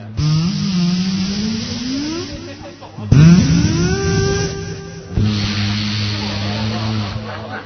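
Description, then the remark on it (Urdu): A juicer blender motor whirs in three loud bursts, its whine climbing in pitch as it spins up, then settling into a steady buzzing hum in the final stretch. “ایک نکالی juicer blender نکالا اور وہ بنا کے چلا کے دکھایا.”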